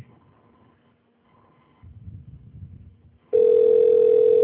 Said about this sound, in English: Let us dial. Dialing the phone. We're dialing the phone, and this is my dialing song.